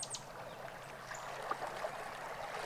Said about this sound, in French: C'est une rivière, un ruban liquide qui serpente à travers la forêt, capturant les reflets de la lune et des étoiles dans son cours sinueux.